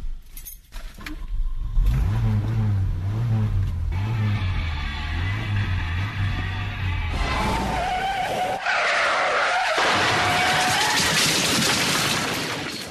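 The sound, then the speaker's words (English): A car engine revs and drones with a wavering low pitch, then tires skid and screech loudly before a crash with shattering debris. No one speaks. “Has the car in the beginning and the crash at the end.”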